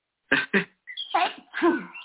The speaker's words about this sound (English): I'm going to sneeze again. Hold on.